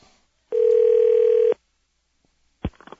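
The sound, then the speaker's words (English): A single steady electronic telephone ring tone hums loudly for about a second, then silence, then a sharp click and rustle as the line is picked up. No one speaks. “I didn't sound too excited when I answered the phone, did I?”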